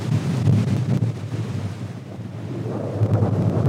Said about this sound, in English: I wanted to test my recording gear to see how it held up in driving wind and rain. If my microphone could have talked right then, it would have said, "I'm with Stupid." Okay, it's getting a little too windy here.